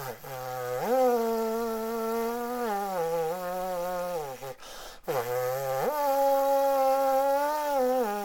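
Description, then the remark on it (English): Lips free-buzz without an instrument, producing a raw, reedy tone that holds low pitches and steps up to higher ones, in two steady phrases split by a brief breath pause. “There are some teachers, Elaine Trudel, the famous Canadian trombonist, uses what's called free buzzing.”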